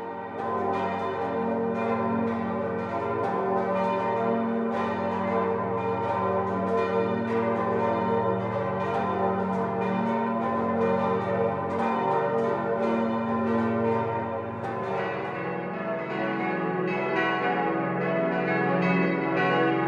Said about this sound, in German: Das prächtige, sechsstimmige Tutzinger Bronzegeläut ist weit über den See zu hören. Die Glocken stammen aus der Gießerei Bachert und sind als Zeichen klingender Ökumene auf die Glocken der nahen evangelischen Christuskirche abgestimmt.